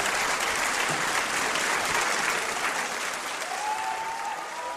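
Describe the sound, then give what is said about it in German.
Sustained applause from a large opera audience after the premiere of a new production of Mozart's Don Giovanni at the Estates Theatre in Prague, mainly for conductor Tomáš Netopil and the soloists; a dense, steady wash of clapping at even loudness, with a faint whistle-like tone rising briefly near the end. “Beifall erhielten nach der Premiere vor allem Dirigent Tomáš Netopil sowie alle Solistinnen und Solisten.”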